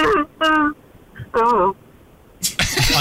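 car engine revving

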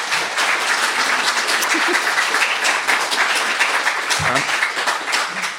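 round of applause

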